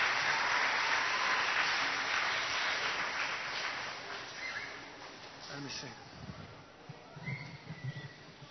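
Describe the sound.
A crowd applauds the kids with dense, steady clapping that gradually thins out and fades over several seconds, leaving scattered voices and murmurs as it dies down.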